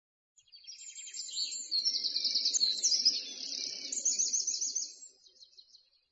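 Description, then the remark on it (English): Dense, high-pitched birdsong with rapid trills and chirps from several birds in a bird park fills the air continuously for about five seconds, over a soft low murmur of background sound. “I can hear birds. Yes, we're in Bird Park.”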